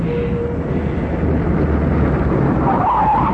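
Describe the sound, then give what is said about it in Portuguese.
A car engine rumbles loudly as the vehicle pulls in, then brakes squeal sharply near the end as it comes to a stop; it is the car of the chauffeur Minoru returning. “Parece que Minoru está de volta. Como? Os senhores tinham um carro...”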